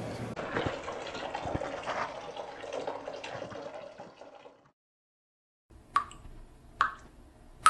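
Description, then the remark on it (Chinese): Water pours steadily into a basin for a few seconds while vegetables are washed, then cuts off; after a brief silence, three distinct drips plop into the water, clear. “妈妈妈妈，等一下，我们用盆接着洗好不好？洗完菜的水还可以用来浇园子里的菜。”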